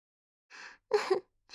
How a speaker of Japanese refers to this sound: おっきなあくび。たっぷり出した日はいっつもぐっすり寝ちゃうんだから。